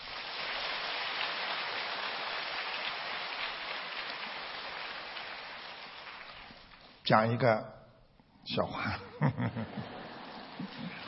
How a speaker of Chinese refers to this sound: 你看现在厉害了，还没讲出来就鼓掌了，万一不灵呢，对不对啊？